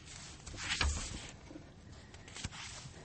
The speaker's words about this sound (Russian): Вот это удивительное ощущение, знаете, при том, что я, в общем, понимаю, что мы с вами сейчас находимся на радио, но мне как-то даже не хочется мешать вот этому такому неторопливому перелистыванию. Да. Страниц.